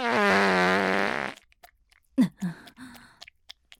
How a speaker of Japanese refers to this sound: ほら、おならのおかわりですよ。